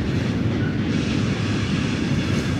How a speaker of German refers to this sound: Der Zug ist auch gleich vorbei.